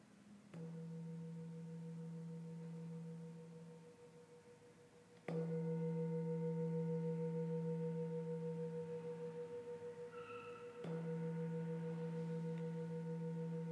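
A meditation bell is struck three times, about five seconds apart, each strike blooming into a sustained, humming tone with layered overtones that slowly fades before the next. No one speaks.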